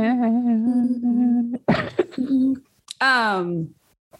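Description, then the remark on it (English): A person clears their throat with a couple of rough, raspy bursts, framed by a steady hummed tone before and a falling voiced sigh after. “I had to clear my throat. Let me clear my throat.”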